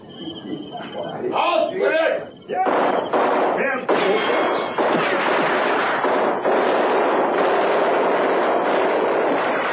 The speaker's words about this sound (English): And then we realized the guns were not being fired in our direction. About 300 meters away, a skirmish was being fought between a German